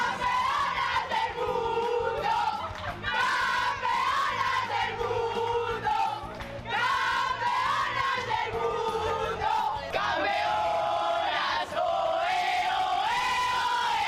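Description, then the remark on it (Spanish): The Spanish women's football team, first world champions, shouts and chants together on arriving at Madrid's Barajas airport from Montevideo around 7 in the morning, in loud, rhythmic bursts, the sung cries rising and falling steadily across the whole stretch with no pauses. “Esta mañana, a eso de las 7, llegaron al aeropuerto de Barajas provenientes de Montevideo y aún llegaron con fuerzas para seguir gritando lo que son.”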